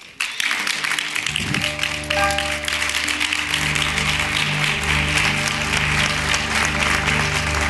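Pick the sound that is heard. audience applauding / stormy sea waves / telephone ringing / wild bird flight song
audience applauding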